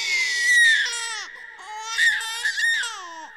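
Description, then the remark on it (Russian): A newborn baby cries: one long, loud wail, a brief catch of breath, then several more rising and falling wails in quick succession, with no one talking. “Слышишь, на земле родился тот, кого ты обещал”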